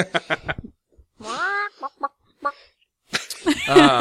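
A chicken clucks in short, choppy bursts, lets out a drawn-out squawk, and then breaks into a louder flurry of rapid, agitated clucking, clear throughout.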